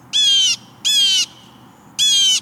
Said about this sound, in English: When you hear a raucous call and see a bold flash of blue swoop to your bird feeder, you'll know a jay has arrived, and all the little birds dart for cover. East of the Rockies, your visitor's quite likely a blue jay.